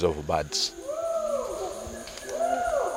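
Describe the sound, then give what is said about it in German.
Distant chimpanzee calls echo through the forest of Kibale National Park: a couple of drawn-out, rising and falling hoots over steady background ambience, with a brief voice at the very start. “Die Schimpansen sind an manchen Stellen im Wald aus der Ferne zu hören.”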